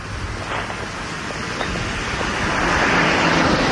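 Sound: car driving past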